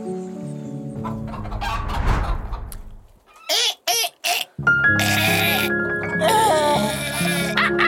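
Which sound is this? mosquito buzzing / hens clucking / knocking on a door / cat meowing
hens clucking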